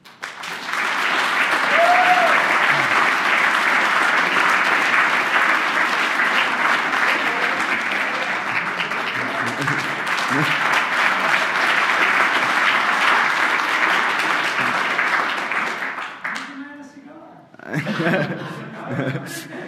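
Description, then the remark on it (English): Sustained applause from a large crowd fills the space for about sixteen seconds, steady and loud, then tapers off with some scattered clapping and a few voices near the end. “I think we should get someone a special applause, because it's Mac who took a lot of effort into building the wireless LAN.”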